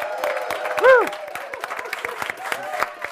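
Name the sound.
cheering and applause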